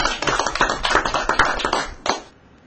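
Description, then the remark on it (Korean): A burst of applause from a small group, dense overlapping hand claps for about two seconds, then a few last claps tapering off into quiet. No one speaks. “우리 두 분한테 그렇게 한번 희망을 드리는 우리 박수 좀.”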